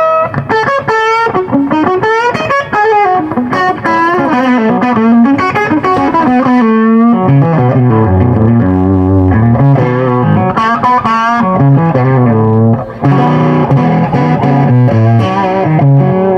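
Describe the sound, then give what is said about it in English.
An overdriven guitar amp on its overdrive channel, with no pedals, plays a loud, sustained riff with a thick low-mid growl, chords and bending notes ringing out with rich harmonic distortion and no voices. “It's like that low mid growl.”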